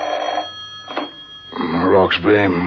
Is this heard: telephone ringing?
yes